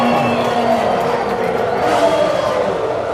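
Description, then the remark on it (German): A large crowd cheers in the grandstands at a Formula 1 race, a dense, steady roar of many voices at a loud level throughout, with no single voice standing out. “Ihr kennt das vielleicht, das Heulen der Motoren, der Geruch von Benzin in der Luft, den Jubel auf den Tribünen.”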